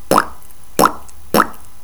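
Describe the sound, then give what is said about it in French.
Three short, hollow lip pops made mostly with the lips while closing the jaw, spaced evenly about half a second apart, each a quick bright plop with a slight upward pitch, alone with no talking. “Donc moi je fais le poids qu'avec surtout les lèvres.”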